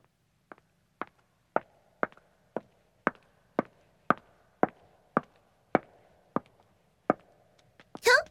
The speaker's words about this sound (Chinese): 只是听到我的脚步声，就让你激动得浑身颤抖啊！